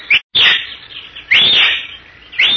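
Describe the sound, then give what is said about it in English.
A horseman, dismounted in a tiny glade surrounded by boulders, stunted trees and giant cactus, gives three shrill, high-pitched whistles one after another, each sweeping up and then sliding down, with short gaps between them and no voices. “He whistles three times, shrilly.”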